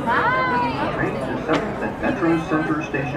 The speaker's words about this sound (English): It's completely unlike Angelenos to be so chatty. Like, everybody's in the train. Can you hear everybody talking? It's, you know, that doesn't happen here.